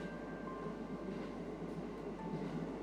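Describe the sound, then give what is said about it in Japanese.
A steady, muffled rumble of a moving train as heard from inside a carriage, with a constant low hum and faint rattling throughout, and no voices. “今乗っている電車にだって命を預けているわけですから。”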